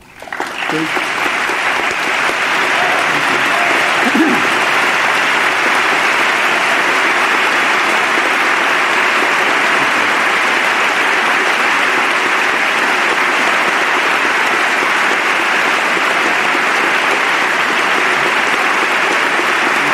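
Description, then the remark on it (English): A large crowd claps in a loud, steady, dense roar of applause that starts abruptly and holds at full strength for about twenty seconds, with a few faint shouts mixed in early on. “He's here with us this evening, and I want to recognize Richard and applaud both his public service and his extraordinary personal heroism.”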